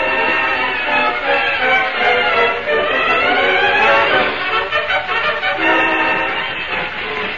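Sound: train arriving and stopping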